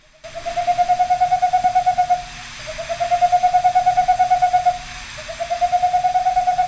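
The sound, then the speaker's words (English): A boreal owl calls in three rapid, evenly paced trills of soft whistled hoots, each lasting about two seconds with short pauses between, clear over a faint steady hum. “That's a boreal owl recorded by Scott Rashid, author of several books on owls.”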